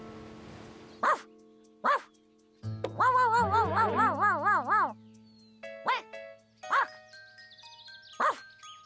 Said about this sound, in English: Pipe down, you king-size canine. What's all the noise?